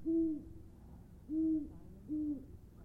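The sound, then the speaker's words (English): An owl in nearby woods hoots three times at night under the stars in Goldstream Valley, at a slow, steady pace, each call a low, smooth tone with a slight downward bend, heard alone against a quiet background. “The owl in the nearby woods echoes my wonderings.”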